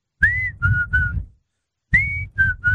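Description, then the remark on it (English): A person whistles a short tune: two matching phrases of three clear notes each, the first note sliding upward, separated by a brief pause. No one speaks. “I consider myself a good whistler.”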